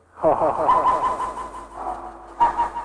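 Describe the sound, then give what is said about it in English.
Penguins calling inside an enclosure where a snow shower falls all the time, a loud, harsh braying chorus that runs almost without pause, fading slightly before a fresh burst of squawks near the end. “The birds love it. But I listen to them talk. Very talkative in here.”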